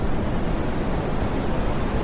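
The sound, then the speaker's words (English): Brown noise: a steady, continuous rush of deep, rumbling noise, heavy in the low end, with no rises or falls, like the sea without distinct waves. No voices. “It's the brown noise, right? Sounds like the sea.”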